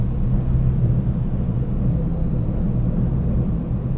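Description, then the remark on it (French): The future Paris tramway, due to enter service in mid-December 2006, runs steadily, giving a continuous low rumble and whirring mechanical hum that holds at an even, fairly loud level throughout, with no voices. “le son du futur tramway de Paris.”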